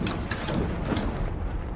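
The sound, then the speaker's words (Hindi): The handle of a doctor's locked door is jiggled and rattled against the lock, giving repeated quick metallic clicks and clunks in an uneven rhythm, fairly loud and with no voices. “दरवाजा लॉक है।”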